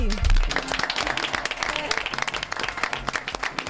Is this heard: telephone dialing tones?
no